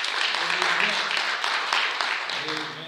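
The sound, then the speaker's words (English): An audience applauds steadily for a few seconds in praise of the piano player, a dense wash of many hands clapping at once, loud, with faint voices murmuring underneath. “Let's give him a hand clap of praise for that.”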